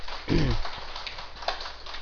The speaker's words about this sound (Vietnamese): À, xin quý vị vỗ cho tràng pháo tay thiệt to.